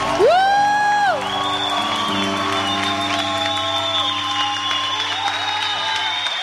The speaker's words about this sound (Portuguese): Aplauda Nossa Senhora.